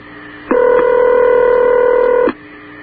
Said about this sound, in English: Sounds like my home phone.